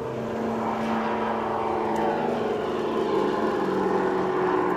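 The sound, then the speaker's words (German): A steady, droning aircraft engine fills the scene over the Sternenfeld sports ground in Birsfelden, where children are playing, a loud continuous hum with a faint rising-and-falling pitch as it passes overhead, with no clear voices standing out. “Schütten die Kinder auf dem Platz Sternenfeld, vermischen sich mit Fluglärm.”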